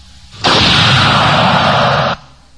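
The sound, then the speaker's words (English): A single loud gunshot in a Hollywood movie scene, where a woman shoots a little girl, erupts as a harsh, full-bodied blast that roars steadily for under two seconds before cutting off abruptly. No voices are heard. “Tell him, and then blows a little girl's head off.”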